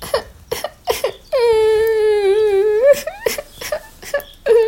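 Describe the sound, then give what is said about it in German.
A voice imitates a little owl sitting behind a bush and wailing loudly. It gives one long, sustained, slightly wavering cry, framed by short, choppy sobbing bursts before and after. “Doch hinter dem Busch saß kein Wolf, sondern eine kleine Eule, die schrecklich laut heulte.”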